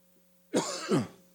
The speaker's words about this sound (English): Excuse me. Just when you think you're over the cough.